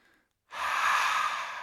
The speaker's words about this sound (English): Breathing out, breathing in, breathing out.